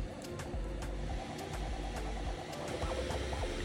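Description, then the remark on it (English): A Bamboo Lab A1 Combo 3D printer hums along steadily at low volume while printing, its stepper motors whirring in shifting, warbling tones with faint periodic ticks and clicks as the print head moves. No one speaks. “The A1 is so quiet, just listen to it.”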